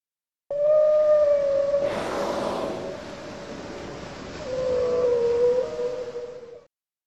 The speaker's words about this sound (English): Is that the mom whale?